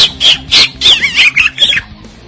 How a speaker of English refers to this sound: and I have my pet bird with me tonight.